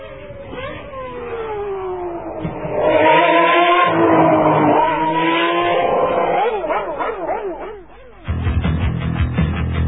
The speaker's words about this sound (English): And, of course, I'll give my prediction now for tonight's Brazilian Grand Prix, the beautiful sounds of Ferrari.